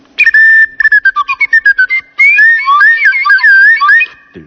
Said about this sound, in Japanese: これはトロンボーンですね。こんな音が。